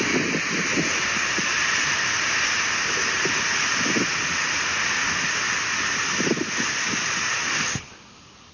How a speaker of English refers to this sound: It almost sounds like a waterfall, but it's not. It's actually the wind, and when you're alone in Death Valley, California, just blowing, and you can hear that nothing is interfering.